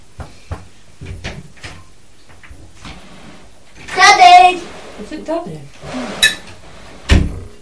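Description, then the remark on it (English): A door opens as a customer comes in, with a few wooden clunks and knocks scattered over several seconds, a brief creaky or voice-like sound in the middle and a final bump. “Oh, yes, coming through the door.”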